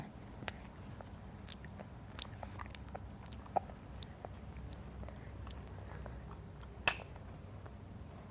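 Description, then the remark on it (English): A baby girl munches a cracker, a steady scatter of small crisp crunches and clicks at an irregular pace, fairly quiet, with a couple of sharper cracks standing out. No one talks. “She's munching it down like she hasn't eaten all day.”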